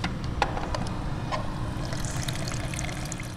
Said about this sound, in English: pours a little sample of Planet Money oil into a test tube